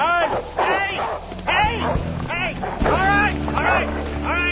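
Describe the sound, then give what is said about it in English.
Several dogs bark and yelp excitedly in repeated bursts, loud, over a steady low engine-like rumble, with some whimpering between barks. “The dogs will take care of all of your problems by the morning.”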